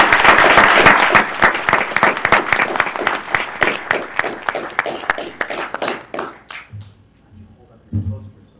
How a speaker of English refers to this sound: let's first give her a round of applause for her great work.